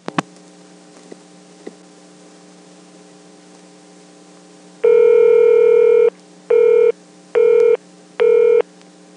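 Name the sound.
telephone number being dialed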